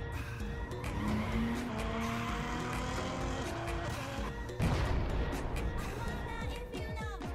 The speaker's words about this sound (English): Oh, dude! I just totally blew my tires! Why were you even going so fast?